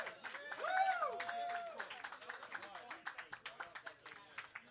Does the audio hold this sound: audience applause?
yes